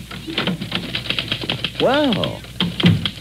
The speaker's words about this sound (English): Typing on your hand-tooled platinum-plated typewriter